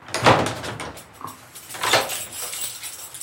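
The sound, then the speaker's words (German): Two heavy knocks land on a large wooden church door in Leipzig in the afternoon, spaced more than a second apart, each one booming and ringing out in a reverberant space. No one speaks. “Nachmittags klopfe ich an eine Kirchentür.”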